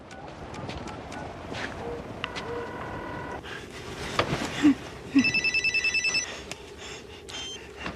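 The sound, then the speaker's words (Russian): A phone rings on an outgoing call, heard as electronic, high-pitched tone bursts, first a steady tone, then a quick stuttering run of pulses, over a constant low rumble with no talking. “Наберу еще разок.”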